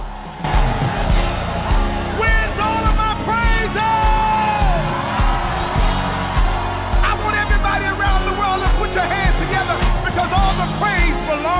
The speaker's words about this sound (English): Let me hear the worshipers.